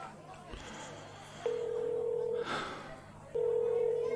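phone dialing tones

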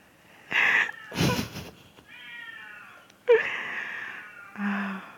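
cat meowing loudly

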